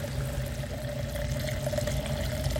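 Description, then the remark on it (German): Alcohol pours steadily into a laboratory-grade glass, filling it about halfway, as the alcohol for a preserved specimen is replaced, in a continuous, even stream with a faint ringing tone running underneath, no voices. “Das sollte die Hälfte füllen, weil ich das Objekt nicht will, trocken einfach in das Glas hineinwerfen.”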